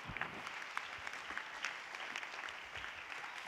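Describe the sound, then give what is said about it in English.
A crowd of people claps hands steadily together in praise to the Lord, a dense, continuous wash of handclaps at moderate volume with no voices standing out above it. “Clap your hands to the Lord and give God praise.”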